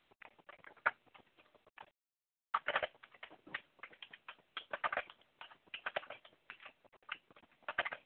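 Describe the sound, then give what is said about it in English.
Rapid, dense clicking of keys on a computer keyboard, fairly quiet, with a brief pause before the flurry resumes even faster. No one speaks. “Are you like mad typing right now?”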